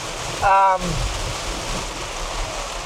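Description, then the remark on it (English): Car tires hiss steadily through standing water on the road, a continuous wet spray sound. A brief voice-like sound surfaces near the start. “There's some serious, like, water on the road right now.”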